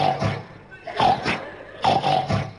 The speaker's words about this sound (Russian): Как бы поросенок хрюкнул и лег спать мгновенно.